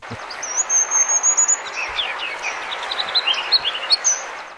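A songbird sings a run of high, thin whistled notes and quick chattering phrases, repeated across a few seconds over a steady hiss of background noise, as if from a field recording.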